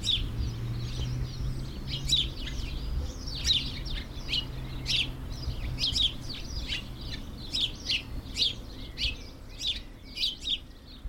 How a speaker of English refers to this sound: just listen to that bird song.